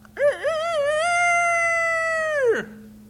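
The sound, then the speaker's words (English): An old rooster in a chicken yard crows once early in the morning: a short wavering opening, then a long, steady, bright note held for over a second before it drops off sharply at the end, with no talking. “Early in the morning, you'll hear the old rooster.”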